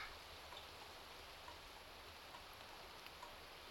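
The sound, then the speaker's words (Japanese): Steady, soft rainfall at night hisses continuously, with faint scattered drips and ticks rising now and then above the even wash of sound; no one speaks. “ついついわがままを言ってしまいます。雨のせいでしょうか？”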